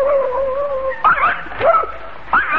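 A dog, Psyche, whines in a long, thin tone, then lets out a few sharp, high-pitched barks and yips spaced across the moment, fairly loud, barking at a non-existent postman.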